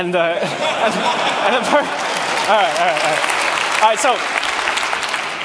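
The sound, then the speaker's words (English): An audience at the 26C3 conference breaks into steady, dense applause that fills the whole stretch at an even level, with scattered voices and a few whoops rising over the clapping. “I was trying to explain to someone, you know, what 23, well, in this case, 26 C3, I remember my 23, what these crowds are like, and I was like, well, there's certain things they'll absolutely clap for, like if your Mac has a problem.”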